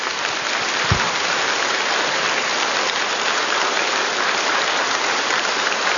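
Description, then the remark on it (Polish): Sustained audience applause for the band from the Culture Centre in Mogielnica, a steady dense wash of many hands clapping at even loudness throughout, with no voices over it. “I oczywiście te brawa dla zespołu … z Ośrodka Kultury w Mogielnicy.”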